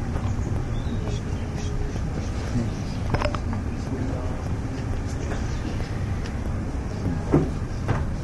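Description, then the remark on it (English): A chair is carried in and set down, with a few short knocks and scrapes over a steady low rumble of room noise, the clearest bump near the end. “There's another chair coming.”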